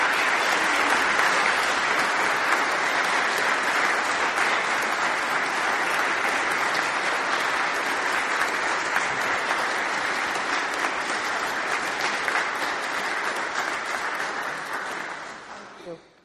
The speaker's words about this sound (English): And all of these mentors and prayer partners have been involved in this at least 2 years, many of them since day one of the program for the past 7 years. Please give them a very warm round of applause for all they did.